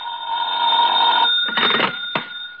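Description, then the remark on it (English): An old-style telephone bell rings with a loud, metallic, jangling trill, one long ring followed by a rattling burst and a brief clunk, with no voices; a late-night call at nearly 11 o'clock. “I wouldn't hear from him for days, and then all of a sudden he'd call up at the craziest times.”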